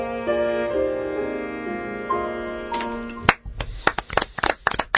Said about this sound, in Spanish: Aquí estamos aplaudiendo a Espinel, que se llama Mayo Echeverri,